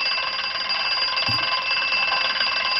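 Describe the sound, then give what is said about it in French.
A loud, continuous bell rings without pause, a bright metallic clatter that holds steady at full volume throughout, insistent, with no voices alongside it; the ringing bell of an old TV programme's opening theme. “Ah, c'est vrai qu'il y avait la sonnerie.”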